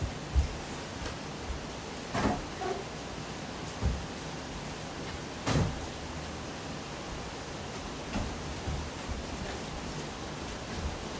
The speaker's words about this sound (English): It's really heavy rain. I'm just going to very quickly check my windows.